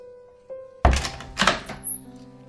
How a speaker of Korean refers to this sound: 나는 여자의 손을 잡은 채 은자당 내외가 잠에서 깨지 않도록 조심스럽게 뜰하게 올라서서 건넌방의 문을 열었다.